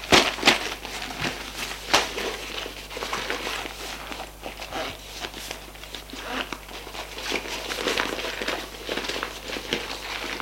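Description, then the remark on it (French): Irregular rustling and crinkling of paper as someone undresses and puts away their belongings, a school bag and papers, mixed with soft handling noises and light shuffling, continuing steadily with brief louder crackles and no voices. “Je me déshabille. Range mes affaires.”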